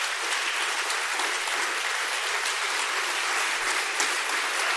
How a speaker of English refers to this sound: You realize you're applauding for God, right?